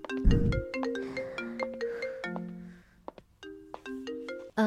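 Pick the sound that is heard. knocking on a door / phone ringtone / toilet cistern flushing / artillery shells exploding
phone ringtone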